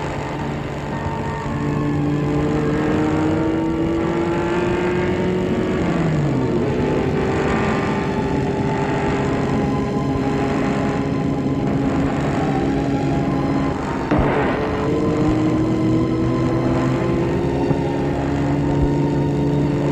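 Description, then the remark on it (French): A car engine drones steadily as the car drives off to Paris on a Monday morning, its pitch dipping and rising twice as if shifting gears, with no voices and no clear fade. “Le lundi matin, Galien est parti en voiture pour Paris.”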